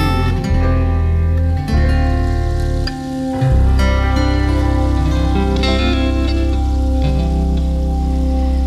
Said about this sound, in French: Avec le petit bâton de pluie à la fin, j'aime ouais, beaucoup. C'est joli.